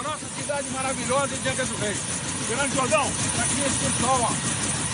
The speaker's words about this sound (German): steigt mit der bewaffneten Zivilpolizei in den Helikopter, fliegt über eine Favela in Angra dos Reis im Bundesstaat Rio de Janeiro und die Polizisten schießen aus der Luft nach unten.